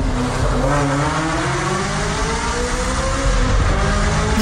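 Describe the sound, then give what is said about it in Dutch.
A Ferrari sports car engine revs loudly and steadily, its pitch climbing and falling in layered harmonic sweeps with a deep rumbling growl underneath, with no voices. “Dus zeg ik, ja, als Ferrari dit goed wil doen, dan moet het toch een beetje zo klinken.”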